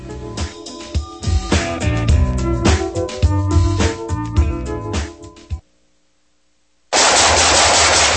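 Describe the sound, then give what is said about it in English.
Loud, rapid automatic gunfire rattles in dense bursts for several seconds, breaks off into a brief silence, then a harsh burst of noise resumes at the end. “Nice shooting. Hey, that's a sweet AK-47 chest rig.”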